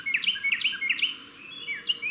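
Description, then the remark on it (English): A Carolina wren sings its loud, ringing teakettle song in springtime, three rapid repeated phrases in a rolling rhythm, then a fourth phrase after a short pause, clear with no one talking. “During this time of year, you often hear the teakettle, teakettle, teakettle of Carolina wrens.”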